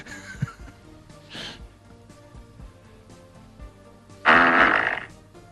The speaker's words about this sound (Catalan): Vols que escoltem la notícia àudio del pet? Perquè fins i tot hi ha àudio d'aquest titular que tu vas veure.